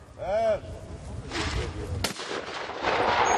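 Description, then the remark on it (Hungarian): A sharp, loud gunshot cracks out midway through at a target shooting demonstration where experts show how to hit a moving target with one shot, standing out against a steady outdoor background with some fainter bursts of noise around it. “A profik pedig azt mutatták be, hogyan kell egy lövésre eltalálni a mozgó célpontot.”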